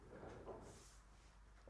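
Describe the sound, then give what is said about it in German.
A door opening or closing: a short low scraping rumble followed by a brief, lighter swish, then everything goes quiet. “Ja, die Türe, ich weiß auch nicht.”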